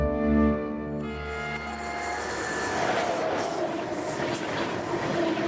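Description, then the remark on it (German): A train rolls steadily along the rails, opening with a drawn-out horn-like tone before giving way to continuous rumbling and clattering wheel noise, fairly loud, with no voices. “Mit dem Zug.”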